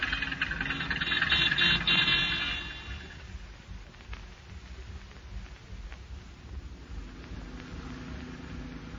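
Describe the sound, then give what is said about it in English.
A car engine runs at a low, steady rumble as the vehicle rolls along slowly, with a burst of louder hiss at the start that fades after a couple of seconds. No one speaks. “Drive slowly, Jules, but be sure you don't hit her, because without a doubt, she's going to see Monsieur B.”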